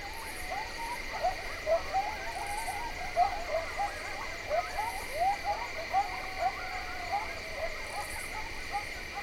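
A chorus of coyotes yipping and barking in quick, irregular bursts, building in a crescendo from ponderosa pines to the north, rises over a steady, shrill drone of night insects, with no one speaking.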